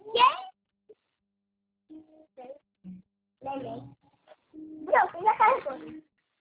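A kitten meows several times in short, high, thin cries, one near the start and a busier cluster toward the end, with quieter soft sounds in between.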